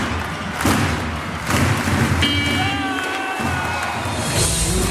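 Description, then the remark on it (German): A basketball crowd of 5,700 in the Telekom-Dom in Bonn roars and cheers loudly throughout, with thumping noise, as a steady, high-pitched final buzzer siren sounds over the din for a couple of seconds midway through, ending the Telekom Baskets Bonn's 87-77 win. “Und so klang das dann bei der Schlusssirene im Telekom-Dom vor 5.700 zufriedenen Zuschauern.”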